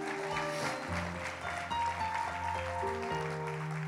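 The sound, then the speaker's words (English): An audience claps hands in a steady, dense wash of applause, heard over sustained organ-like chords that shift pitch a few times. Nobody speaks. “Amen, yeah, clap your hands, it's fine.”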